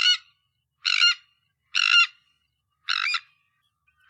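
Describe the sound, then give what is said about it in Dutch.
Harsh, grating calls of a sandwich tern ring out about once a second, five rasping notes in a steady rhythm, clear against a silent background. “Het is geen meeuw, toch? Grote stern.”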